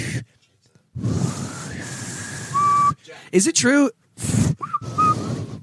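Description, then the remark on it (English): Someone tries to whistle but mostly produces breathy, airy blowing in several long puffs, with only a faint thin tone slipping through now and then; a short spoken question comes between attempts. “You're just blowing. You're just blowing air.”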